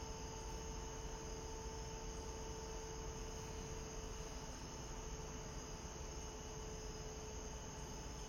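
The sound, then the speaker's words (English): A steady summer evening chorus of crickets, their trilling blending into a continuous, soft drone that never pauses. No voices are heard, only the even hum of insects filling the background. “And here they are, really in full bloom this evening.”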